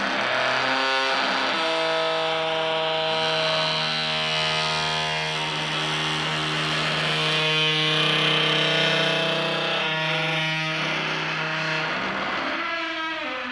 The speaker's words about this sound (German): Ja, das Interessanteste an meiner Wohnung ist aber meine Badezimmertür. Ich habe wahrscheinlich die am schönsten quietschende Badezimmertür der Welt.